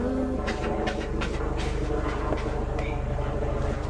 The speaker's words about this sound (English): The aeroplane. Yeah, it sounds like an aeroplane, doesn't it?